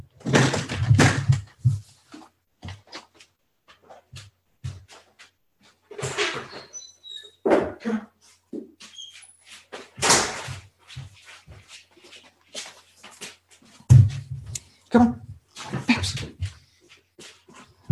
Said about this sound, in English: I'm going to let my dog in because he's going to do this for the next hour if I don't let him in. So excuse me for one moment.